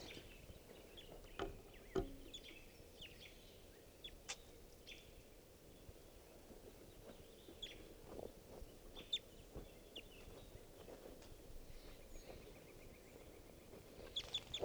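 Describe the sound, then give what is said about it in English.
Wild bird calls from an orangish male bird in a park ring out as scattered short, high chirps, some isolated and some in quick pairs, faint over a steady low rumble of background noise. “Those are his calls.”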